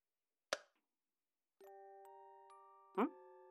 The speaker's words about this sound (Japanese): オルゴールの音。あの時焦って持って帰ってきちゃったやつか。